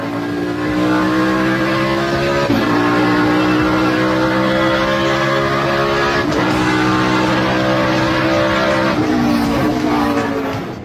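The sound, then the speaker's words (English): A race car engine heard onboard, roaring loudly and continuously as it revs up through the gears, its pitch climbing and then dropping at each of three or four shifts. “Yeah, that's the car.”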